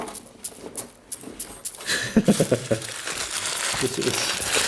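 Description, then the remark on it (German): Sandwich paper being crumpled to imitate marching soldiers, a dry crinkling that starts sparse and then turns dense and rhythmic, with soft voices murmuring underneath. “Jetzt habe ich hier noch so eine Plastik, große Stimmung. Was ist das? Ach, was? Also Butterbrot. Butterbrotpapier.”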